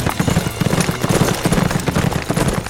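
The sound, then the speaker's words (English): Horses ridden by mounted riders galloping away, their hooves pounding out a quick, steady clip-clop rhythm of sharp thuds that holds at an even loudness from start to finish, with no voices. “But they had already mounted and were galloping away.”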